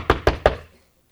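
Three quick, evenly spaced, firm knocks rap out in a rapid rhythm before fading into silence.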